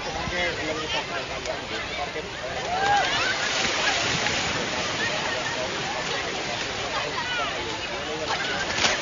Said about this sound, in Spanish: El vaivén de las olas, nada más y nada menos. Vamos a escuchar cómo se rompen.